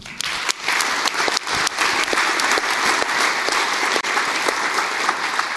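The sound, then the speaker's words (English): A conference audience applauds steadily to thank DTAC and RRBON for providing the radios, IP transit, Wi-Fi and switches, a dense wash of many hands clapping at a constant, fairly loud level throughout, with scattered sharper individual claps standing out. “And yes, we already mentioned it, this huge load of equipment, all the radios, the IP transit, Wi-Fi, switches and the like were provided by both DTAC and RRBON, so huge round of applause to them.”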